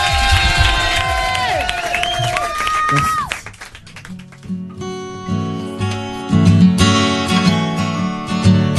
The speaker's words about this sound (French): Il est là en live. Tout le monde applaudit.